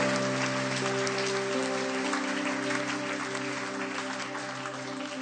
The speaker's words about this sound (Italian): Facciamo un applauso al Signore, per favore.